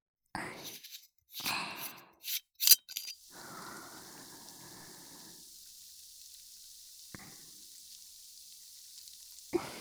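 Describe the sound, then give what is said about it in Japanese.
A carbonated drink fizzing: a few sharp bursts of hissing open it, then a steady crackling fizz that thins out into a soft, high, continuous hiss with one faint pop near the end. “まずは炭酸の音。”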